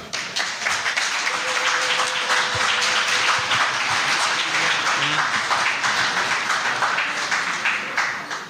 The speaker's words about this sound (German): Ja, ja. Applaus.